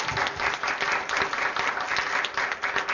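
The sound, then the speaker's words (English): A church audience breaks into sustained applause for God, dense overlapping clapping that stays loud and steady throughout with no voices standing out above it. “He says, "All together now, applause for God."”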